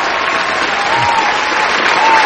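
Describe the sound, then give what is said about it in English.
Steady, dense applause from a studio crowd fills the whole moment, a continuous wash of clapping at a loud, even level with no pauses. “Hey, in studio crowd. Stop it.”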